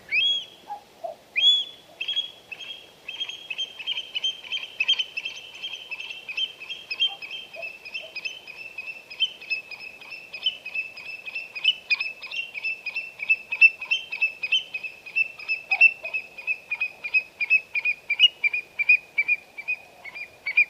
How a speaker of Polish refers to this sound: Ptak kulon.